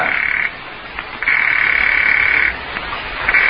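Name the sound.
telephone ringing unanswered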